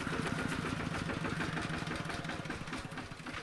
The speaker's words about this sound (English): It's a tractor pulling a large stack of freshly cut timber